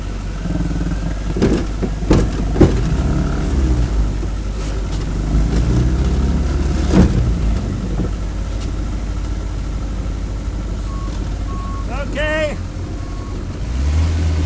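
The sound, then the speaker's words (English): A small Yamaha 4 horsepower outboard boat motor runs in reverse, moving the boat backwards after launch from a hoist, with a steady, throaty low drone, broken by a few sharp knocks and a brief high warbling chirp near the end. “We're going backwards under our trusty Yamaha 4 horsepower motor.”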